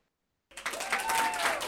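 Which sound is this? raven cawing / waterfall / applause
applause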